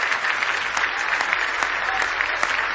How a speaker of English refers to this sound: Now give him another big hand clap of praise if you love him. All your heart this morning.